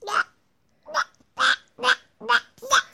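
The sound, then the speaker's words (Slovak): A person imitates a duck, giving six nasal quacks in a steady rhythm with short pauses between them, fairly loud, with no other sounds, answering how a duck goes during the telling of Tony Wolf's fairy tale The Ugly Duckling. “Kačka ako robí?”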